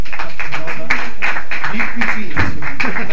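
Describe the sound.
An audience applauds steadily, a dense wash of overlapping claps with sharper individual hand claps breaking through, fairly loud throughout, with some faint voices murmuring underneath.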